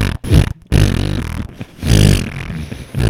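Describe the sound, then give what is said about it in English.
A voice blows a loud, sputtering raspberry that imitates a fart, made as the sound of a tree falling in a forest, a couple of buzzy bursts over about three seconds, with no words spoken. “Can you imagine someone on another part of the forest just hears them, just this loud fart?”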